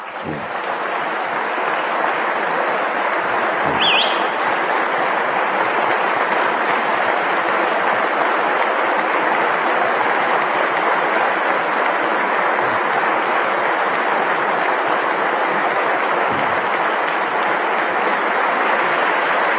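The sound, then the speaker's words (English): Sustained applause in the Wisconsin legislative chamber, mostly from the Republican side, during a Budget Reform Act address; a steady dense roar of clapping at a constant loud level with no pauses and no one speaking. “I should note here that much of the applause is coming from the Republican side of the aisle.”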